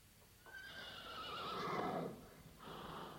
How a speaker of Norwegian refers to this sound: Den hesten du har her i stallen din